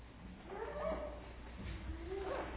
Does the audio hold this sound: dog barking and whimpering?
yes